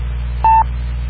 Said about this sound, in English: You know, it's funny, the Echolink, instead of doing like a beep, it sounds like a drip. Yeah, it does make an unusual sound, doesn't it?